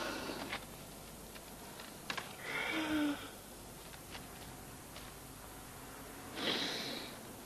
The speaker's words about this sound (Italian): E lui comincia finalmente a respirare dopo questi tuk tuk che sentiamo, che sono i timbri della segretaria che digita, fa senza assolutamente interfacciarsi con lui come se non gliene, sì, fregasse assolutamente niente.